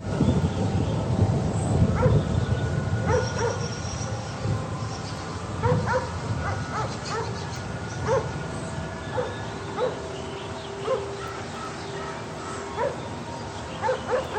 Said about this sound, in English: And this one's a little lighter. It's a little more faint. You can hear birds and a dog barking, but this one is more in the distance.